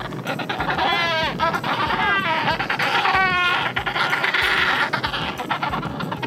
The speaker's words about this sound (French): le cri que tu as entendu, c'est celui du manchot d'Adélie